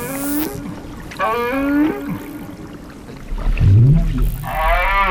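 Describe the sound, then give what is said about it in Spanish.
Deep, drawn-out underwater whale moans off Península Valdés in Patagonia, Argentina, with rising and falling tones, repeated several times, over a constant low rumble and faint reverberant echoes from the seabed. “Es un mugido. Y debajo escuchamos una especie de eco.”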